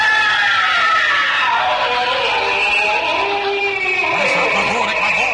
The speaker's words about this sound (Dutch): Volgende wat is... hoor ik nou? Wat is dat nou voor een gil? Oh, dat komt van het toilet. Oh, komt van het toilet.